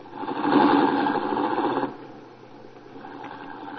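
A car engine hums and rumbles steadily as the car is driven up to the front of a house, swelling louder at first, then dropping to a softer idle-like drone partway through. No one speaks.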